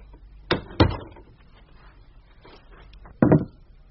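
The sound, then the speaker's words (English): A door is closed in a radio dramatisation of J.B. Priestley's Lost Empires: two quick wooden knocks and thuds close together, then after a pause a final solid clunk as it shuts. No one speaks. “Put that bottle down and close the door.”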